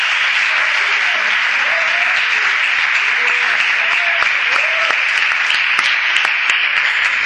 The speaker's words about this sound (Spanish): se va a llevar un fuerte aplauso porque seguramente de carpintería os ha transmitido mucho.